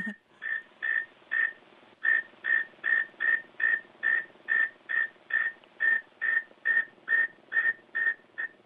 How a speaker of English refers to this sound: I love these. This is the northern mole cricket. Let me get this going here.